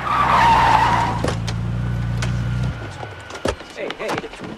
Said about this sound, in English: Later, Stanley motors up to Roy and accosts him in the car park.